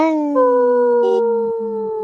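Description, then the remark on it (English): Several people howl together in imitation of wolves, their long, sustained wails overlapping and sliding slowly downward in pitch, loud, filling the whole moment without pause. “Audrey didn't howl”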